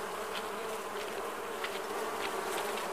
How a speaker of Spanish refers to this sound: ¿Y eso que viene por ahí? ¡Más abejas!